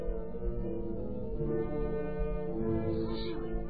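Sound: wolves howling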